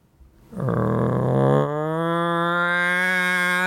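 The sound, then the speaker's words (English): A local town's wake-up alarm siren in rural South Dakota, sounding every morning at 7 a.m., blares a steady, buzzy low tone with rich harmonics, held loud for about three seconds after a quick onset, its timbre shifting slightly midway. “The local town, has an alarm to wake everyone up.”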